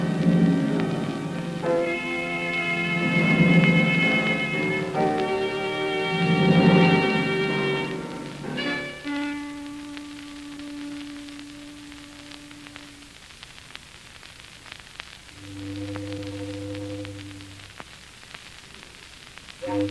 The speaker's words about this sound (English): Foghorns always have to sound so mournful.